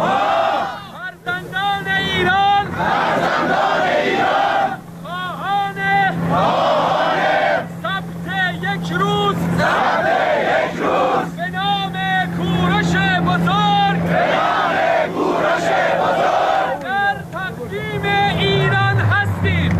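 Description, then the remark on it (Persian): A large crowd at a gathering honouring Cyrus and calling for a national Cyrus day in the Islamic Republic's calendar chants together in loud, rhythmic bursts of voices, pausing briefly between phrases, with a steady low engine-like drone running underneath; taken from a video shared online. “این صدا برگرفته از یکی از ویدیوهایی است که بر روی فضای مجازی منتشر شده است.”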